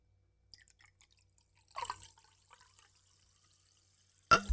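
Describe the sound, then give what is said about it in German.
A fizzy drink is poured into a glass for ASMR: scattered faint drips and small fizzy pops, a brief splashing pour in the middle, then a sudden loud burst of noise at the very end. No one speaks. “Weil nicht genug Kohlensäure drin ist.”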